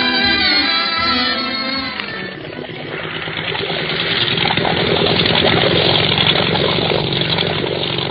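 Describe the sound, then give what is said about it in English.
The engine of a motor launch on the water in Madeira starts up with a tonal whine, then settles into a loud, steady, rumbling drone that carries on alone without any voices. “Isn't this a swell boat”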